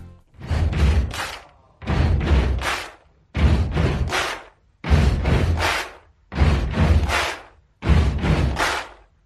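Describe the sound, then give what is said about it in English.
Loud, steady stomp-stomp-clap pattern repeated six times: two heavy foot thuds followed by a sharp hand clap in each cycle, with brief pauses between rounds and no voices. “So, wherever you are, if you can, make sure to stomp, stomp, clap to the beat.”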